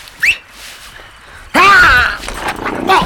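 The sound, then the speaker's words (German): A puma attacks a man who has fallen from his horse, letting out a sudden, loud snarl that rasps for about half a second and trails into rougher growling, after a brief faint whistling tone near the start. “Ruf den Puma zurück!”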